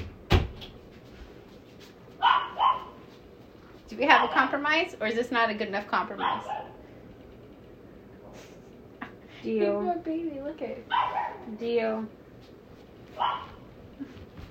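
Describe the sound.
A female dog lets out a few sharp barks at a person who is holding another dog, interspersed with the person talking; a door or cupboard knock sounds near the start.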